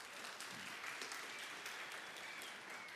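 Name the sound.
golf clap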